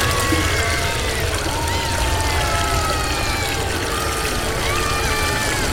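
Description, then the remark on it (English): Loud rushing river water pours continuously in a steady, churning roar, unbroken throughout, with faint gurgling textures swirling within the flow. “A raging river of piss sweeps away everyone and everything in its path.”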